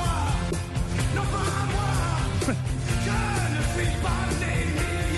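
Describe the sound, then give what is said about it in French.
A rock song plays loud and dense, a male singer shouting and screaming his lines over heavy band accompaniment for several seconds, with no talking over the music. “C'est une chanson où on crie ou une chanson où bon, on chuchote. On crie quand on crie ça, oui.”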